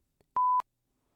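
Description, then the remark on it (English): A single loud, steady beep from the warning alarm of a truck outside, about a quarter-second long with a clipped start and stop, and no voices around it. “There is a truck outside beeping, as I'm sure you can hear.”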